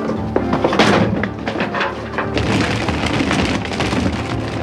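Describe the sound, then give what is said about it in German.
A fruit stand being knocked over: a loud crash of objects tumbling and thudding, followed by a dense rattling clatter of many small items scattering and rolling across the ground for several seconds. “Verdammt, der hat den ganzen Obststand umgekippt!”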